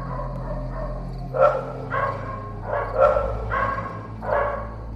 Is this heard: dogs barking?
yes